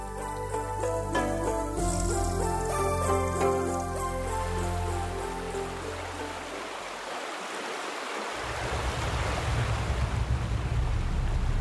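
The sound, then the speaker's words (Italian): A boat's engine drones steadily with a low, humming tone that fades after a few seconds, giving way to loud, continuous rushing water and wind noise as the boat sets off navigating on a river. “Iniziamo la navigazione sul fiume”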